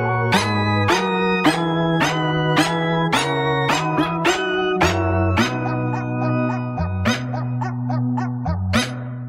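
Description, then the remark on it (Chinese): Barks of three to four dogs, pitch-shifted into musical notes, play a bouncy comic melody as the lead over a familiar music accompaniment: a quick steady run of sharp yaps over a sustained bass, loud, with no talking. “比方说呢，现在我们听到的这首有3-4只狗的汪汪叫声搞成的滑稽音乐。”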